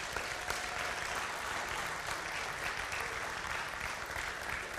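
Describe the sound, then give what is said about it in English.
A church audience praising God bursts into sustained applause, dense overlapping clapping from many hands filling the room at a steady loud level for several seconds, with no talking over it. “Give him a big clap.”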